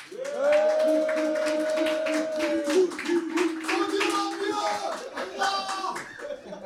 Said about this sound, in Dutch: Welkom allemaal bij de derde dag van het WK. En dat betekent dus ook de derde dag van de WK-show van Koelkast Sport. We zijn hier nog steeds met een live publiek dat nu heel veel lawaai gaat maken.